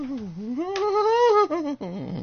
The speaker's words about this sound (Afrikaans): Dit is die singende saag, die langspeler het nou uitgekom vir Kersfees